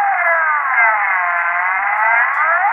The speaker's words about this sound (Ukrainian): Цієї миті з телеекрана долинув пронизливий свист. То був сигнал повернення до роботи.